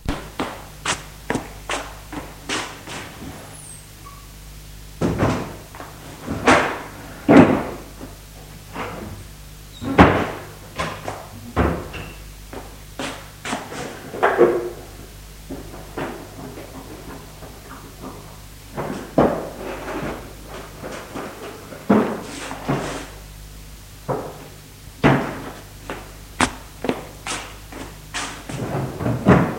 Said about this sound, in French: ouvre les tiroirs de la commode, armoire, puis celui de la table de nuit.